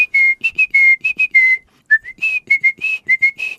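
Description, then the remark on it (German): A person whistles an imitation of a great tit's spring call, rendered as 'Zizibe' or 'Titi': a clear two-note phrase repeated rhythmically, with a brief pause midway before the pattern resumes. No talking. “Also die Kohlmeisen rufen im Frühjahr Zizibe, Zizibe, Zizibe, Zizibe oder Titi, Titi, Titi, Titi, Titi.”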